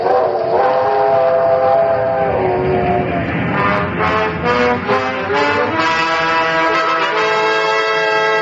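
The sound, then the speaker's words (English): A train rumbles along while its whistle blows loudly and almost without a break, the held chord wavering slightly in pitch over a steady low mechanical roar. No voices. “Nowadays, an army marches on its ammunition trains.”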